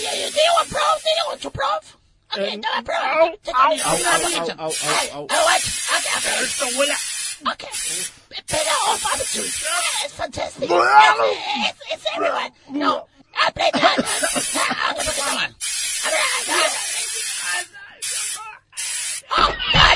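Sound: pepper spray being sprayed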